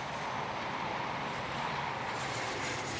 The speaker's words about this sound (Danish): jeg, at jeg kan se, eller jeg kan høre toget komme.